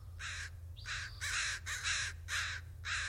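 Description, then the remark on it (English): A crow caws repeatedly, six harsh, evenly spaced calls in a steady rhythm, loud, over a low constant rumble of background noise. “But when you're walking past those trash cans, you're probably seeing crows.”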